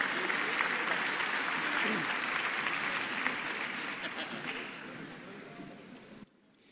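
Sustained audience applause for a speaker being introduced, a dense wash of many hands clapping that holds steady for about six seconds, then gradually thins and stops abruptly near the end.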